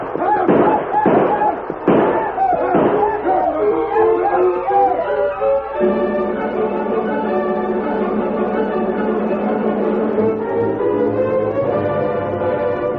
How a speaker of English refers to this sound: The black leader broke his stride when he heard the shots and yelling ahead of him.